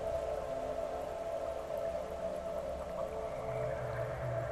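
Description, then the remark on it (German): A creature's soft, low growl, very light for it, as it walks once around a person, rumbles steadily for several seconds, a continuous droning tone over a deep rumble with no pauses and no voices. “Das Wesen wandert einmal um Maria herum mit einem für seine Verhältnisse sehr, sehr leichten Knurren.”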